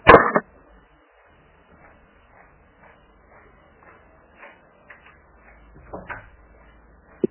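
A door shuts with a sharp thud, followed by faint shuffling and small clicks, then a softer thump and a final click near the end.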